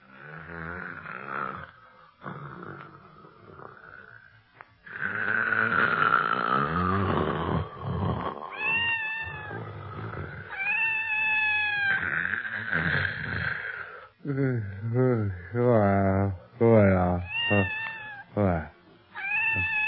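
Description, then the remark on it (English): Loud, exaggerated snoring from a boy sleeping hard in a bedroom, voiced as long rising and falling growls and wails that sound almost like a big cat, repeating alone for the whole stretch. “Barney, in particular, is sleeping hard and loud.”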